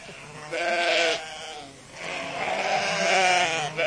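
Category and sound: animal, sheep bleating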